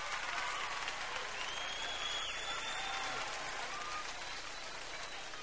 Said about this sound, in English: Let me hear the women clap that are loyal to their men, truthfully. Let me hear you clap.